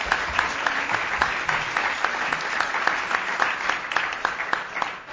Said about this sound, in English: And you are all invited, or I'll let you do the invitation, so let's applaud our panel.